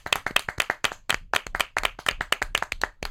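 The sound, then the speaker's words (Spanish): Brief burst of hand clapping from a small group, quick irregular claps overlapping at a steady, lively pace, fairly loud with no voices. “Un aplauso de nuestra parte.”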